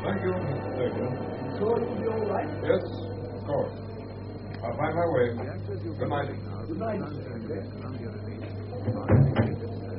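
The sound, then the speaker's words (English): A front door opens with a short, loud clunk near the end, over a steady low hum, with muffled voices murmuring in the background. “Ah, there's the front door.”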